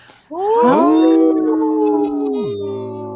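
Several wolves howl together in a loud, sustained chorus, overlapping rising and sliding tones blending into a dense, harmonized wail that holds steady before one voice drops lower near the end.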